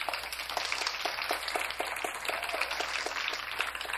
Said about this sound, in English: And I think she deserves a big round of applause.